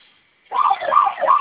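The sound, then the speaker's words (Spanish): A security alarm siren, set off by pressing the keypad's two fire buttons at the same time for five seconds, starts abruptly after a brief pause, wailing loudly in repeating rising-and-falling sweeps about three times in a second. “Sonó su alarma.”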